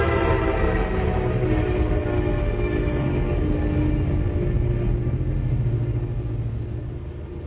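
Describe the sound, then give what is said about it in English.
A train rumbles past with a loud, sustained horn blast sounding over the heavy rolling of the cars, the noise easing slightly as it moves on. “You know, that's the first time in the week I've been here that I've actually seen the train.”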